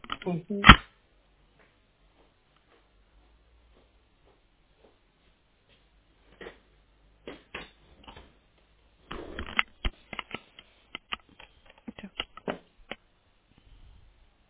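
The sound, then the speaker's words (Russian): Someone rummages around for a pen: scattered clicks, taps and rustling handling noises come in short irregular bursts, with quiet gaps in between and no talking. “Сейчас подождите, пожалуйста, ручку возьму.”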